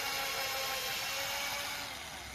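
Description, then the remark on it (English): A power drill whirs steadily as it bores holes for bolts into a wooden 2x4 board, a continuous high grinding buzz that holds level before easing slightly at the end, with no voices. “Now help me drill some holes in it so we can place the bolts.”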